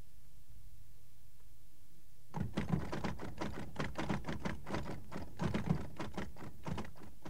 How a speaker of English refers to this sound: He's typing.